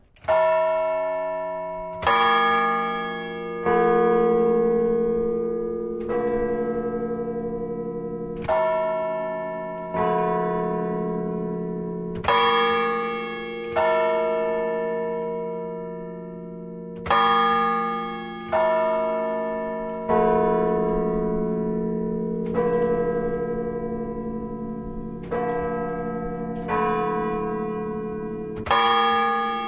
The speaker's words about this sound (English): Well, actually, let's hear a little bit of it again. The sound of the bells from atop the MetLife Tower, which Bill Fontana is using as kind of source material for this sound sculpture tomorrow.